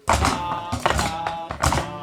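Drumming by children in a small musical: loud, booming hand-drum strikes in three bursts, with a steady tone holding underneath.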